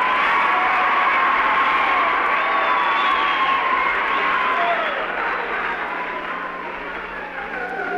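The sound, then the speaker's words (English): A large crowd of fans screams continuously in a dense, high-pitched roar that stays loud and only eases slightly toward the end, with no pauses. “I mean, you can't hear me when you're screaming.”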